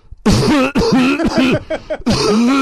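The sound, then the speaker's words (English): A voice imitates a man's series of harsh, throaty coughs, several rapid bursts in a row with brief gaps, loud, rasping like a bad hacking fit. “He literally was coughing every 3 seconds for an hour.”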